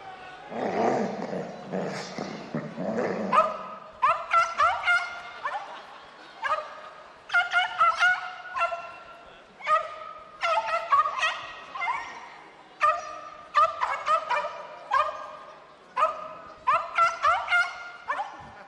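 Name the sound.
small dog barking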